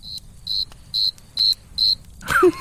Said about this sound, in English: Wee, wee. That's not a cricket sound. It's close enough. Yeah, that or like chirp, a little squeak toy. Chirp, chirp, chirp. Cricket sounds.